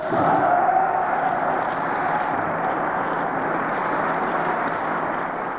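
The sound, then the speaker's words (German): Heavy applause from coalition members in the German Bundestag as Bundestag President Rita Süssmuth reads out the result of the chancellor vote re-electing Helmut Kohl: a dense, steady roar of many hands clapping at once that stays loud and even for the whole few seconds. “Die Spannung der Koalitionsparlamentarier entlud sich im heftigen Beifall, als Bundestagspräsidentin Rita Süssmuth das Ergebnis verlas.”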